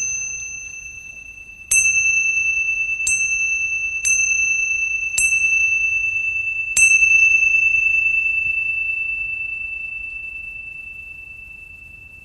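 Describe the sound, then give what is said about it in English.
A bright meditation chime is struck five times over several seconds to begin a mindfulness meditation, each strike renewing a clear, sustained ring that hangs in the air and slowly fades away into quiet, with no voices. “And once again, what we'll just do is this time just use the sound of the chime to enter into mindfulness, and then just listening to the sounds and the room, and then the chime to come out.”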